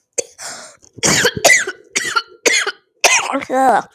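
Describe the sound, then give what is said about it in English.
A sudden, breathy sneeze blended with a sharp inhale, followed by a string of short, loud voiced bursts and gasps that come in uneven spurts over a few seconds. “I think it was like a sneeze inhale at the same time.”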